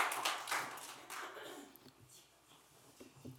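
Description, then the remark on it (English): A room of people applauding a veteran, a dense wash of many hands clapping together that is fairly faint, thinning out and tapering off toward the end. “Round of applause.”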